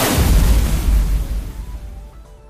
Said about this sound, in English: Computer launched fire cannon from block 2.